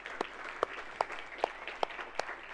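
A church audience applauds for all the fathers, a dense bed of many hands clapping with sharper, louder claps popping out at a steady, regular beat. The clapping stays moderate in volume and no one speaks.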